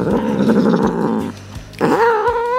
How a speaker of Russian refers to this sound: Опять подключается наш кот